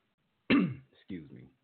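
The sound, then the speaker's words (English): A person clears their throat in two rough, voiced bursts, a harsh rasp followed by a shorter grumble, with no talking around it. “Excuse me. Got to clear my throat.”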